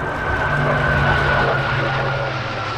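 A fighter jet's engine roars steadily and loudly for a few seconds at the military air base in Aviano, a dense, rushing wall of noise with a faint high whine running through it, the engine spitting flames as the jet moves along the ground; no voices.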